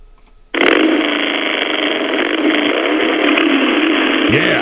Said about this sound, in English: Okay, now what we do is get the motorcycle. Here it is.